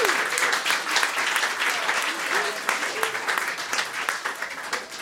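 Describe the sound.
Sustained applause from an audience, a dense rapid patter of many hands clapping at steady loudness, with a few faint cheers or voices mixed in underneath.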